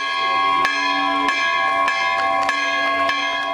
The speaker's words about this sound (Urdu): سری نگر کے مولانا آزاد روڈ پر 120 سال پرانے کیتھولک چرچ میں 50 سال بعد نئی گھنٹی کو نصب کیا گیا تو ٹاور پر لگی نئی گھنٹی کی رسی کو عیسائی پادری کے ہمراہ مسلم، ہندو اور سکھ فرقے کے معزز شہریوں نے بھی کھینچا.